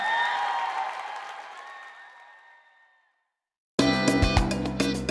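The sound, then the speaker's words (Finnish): An arena audience at the Helsinki Ice Hall applauds and cheers, the broad roar of clapping and voices tapering off over a few seconds into silence before loud, rhythmic music with strong beats abruptly starts. “Hei, Helsingin jäähallit, olette ollut aivan upea yleisö. Kiitos tuhannesti.”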